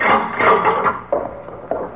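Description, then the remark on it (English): A door swings open with a long, drawn-out creak, fairly loud, ending in a couple of soft wooden knocks as it settles. “Door.”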